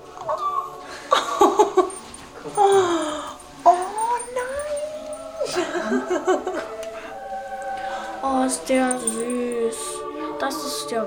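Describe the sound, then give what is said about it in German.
A young puppy whimpers and whines in high, wavering cries that rise and fall over several seconds, while excited voices and some laughter overlap. “Das ist jetzt dein Hund, okay?”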